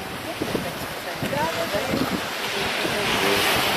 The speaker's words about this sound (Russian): Но вот когда ты у водички, когда ветерок... Вы сейчас тоже почувствуете ветерок. Я сейчас поверну камеру, и ветер вы почувствуете на микрофоне. Вот. Чувствуете ветерок-то?